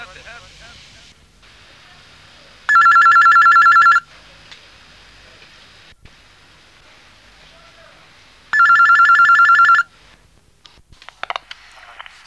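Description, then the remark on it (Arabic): A telephone rings twice before a phone-in question call in the Al-Huda wan-Nour series, recorded 27/12/1992. Each ring is a loud, bright electronic trill lasting over a second, separated by a pause of several seconds, with faint background hiss and a few clicks at the end. “من سلسلة الهدى والنور أجوبة على أسئلة عبر الهاتف.”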